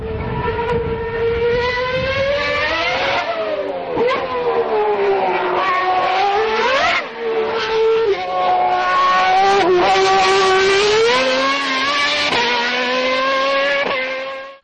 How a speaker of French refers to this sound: J'ai cru reconnaître Badoer, non, au bruit où le moteur hurlait, non? Oh non, Badoer, il pousse pas autant la voiture. Non. Non, si je me trompe pas, ça doit être, ça doit être Shumi, ça, non? Je pense, ah, sûrement. Oui. Ça, c'est un V10, non? V10.